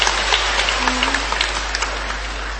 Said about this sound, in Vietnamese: Rồi anh kể một tràng pháo tay để chúng ta tạ ơn Chúa.